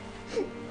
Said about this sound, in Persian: تو داری گریه میکنی؟